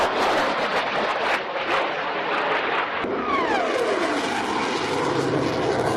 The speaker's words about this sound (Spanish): Y pendientes del aire, pendientes del cielo, tenemos que estar del 3 al 13 de febrero porque el ejército ha avisado de posibles estampidos sónicos en Lorca por maniobras de aviones militares.